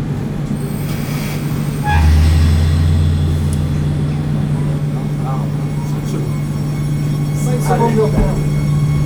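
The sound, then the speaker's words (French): A train at a station rumbles steadily with a low hum and a hiss of released air as the driver releases the brakes once the doors close, then builds into a constant rolling drone as it departs, faint metallic squeals rising near the end. “Comme ça, le temps de fermer les portes, le conducteur desserre ses freins, que ça parte, on fait un H00.”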